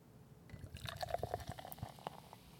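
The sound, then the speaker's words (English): Beer, a Polish lager, glugs and splashes as it pours into a glass, followed by a soft fizzing, crackling foam for a couple of seconds; no one speaks. “Oh, that was a crispy audio pour. You could probably hear like how foamy that is.”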